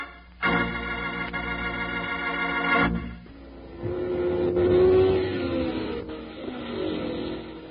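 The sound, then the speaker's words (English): Loud engines rev hard in a sustained roar, dropping briefly before another car surges and accelerates, its pitch climbing and easing as fast, souped-up hot rod race cars tear along a track at the hot rod races. “Exciting it is to go to the hot rod races, watching those fast, souped-up cars burn up the track.”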